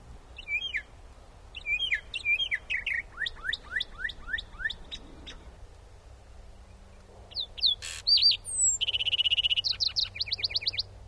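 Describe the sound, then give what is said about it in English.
A lark sparrow perched atop a light pole sings a jumbled series of buzzy trills and sweet notes, then a northern mockingbird drives it away and takes over with varied, repeated phrases, against a low background hum. “In the following recording, we hear the last sparrow and the first mockingbird songs.”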